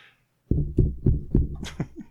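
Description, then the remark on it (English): Four heavy, booming thumps on a microphone, evenly spaced about a quarter second apart, followed by a few lighter, higher knocks and rustles. No voices are heard. “So please see a doctor or thump your mic, whichever.”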